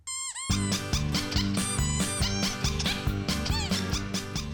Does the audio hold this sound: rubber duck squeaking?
yes